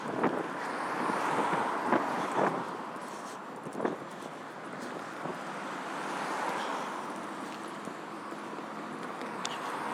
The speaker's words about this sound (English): It's also pretty busy with traffic, as you can hear.